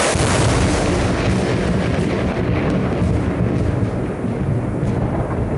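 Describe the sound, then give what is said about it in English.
A loud thunder from heat lightning rolls on steadily for several seconds, a dense, deep rumble with crackling texture throughout and no clear breaks. No one speaks over it. “Just heat lightning.”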